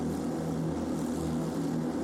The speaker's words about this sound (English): So engines have started. I hear the unmistakable tones of a 4-litre flat six on takeover. For all the things that are new for 2021 and the Type 992 Porsche Carrera Cup car, the 4-litre flat six remains the same.